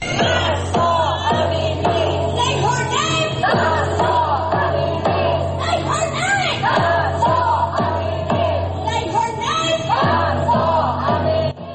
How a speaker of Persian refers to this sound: اما روز شنبه در پایتخت آمریکا، واشنگتن، همزمان با دیگر شهرهای جهان، نام مهسا امینی توسط هزاران ایرانی فریاد زده شد.